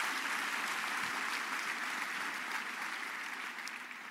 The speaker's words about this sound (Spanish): Aplauda al Señor nuevamente.